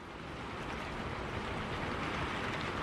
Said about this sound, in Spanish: Antes el viento, ahora la lluvia, Jesús.